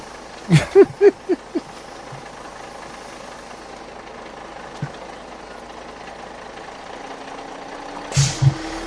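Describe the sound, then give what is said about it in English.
A bus arrives, its engine idling with a steady low rumble throughout, with a quick series of loud clunks near the start and another pair of thuds just before the end. “Here comes our badass bus.”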